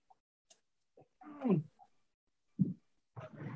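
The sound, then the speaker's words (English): A misbehaving house cat lets out a drawn-out, falling meow, followed by a few short thumps and rustling bursts, as if the cat is moving around the room. “Oh, I have a cat that's not behaving.”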